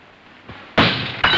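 A window's glass shatters loudly in two bursts: a bright, crashing break followed a moment later by a second sharp smash of falling shards, with no voices.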